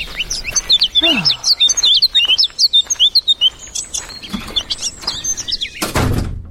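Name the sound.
birds chirping in spring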